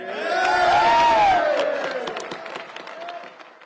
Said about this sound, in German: Es ist schon lustig, Rieke, wie die Republikaner klatschen, als sei nichts passiert oder jedenfalls, als habe es keine Vorgeschichte gegeben und wie Johnson sagt, das Haus sei vereint.